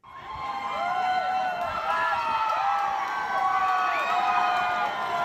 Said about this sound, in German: Der Jubel vor dem Gerichtsgebäude in Los Angeles ist riesig, als der Anwalt von Britney Spears vor die Fans tritt und verkündet, dass Britneys Vater Jamie nicht mehr ihr Vormund ist.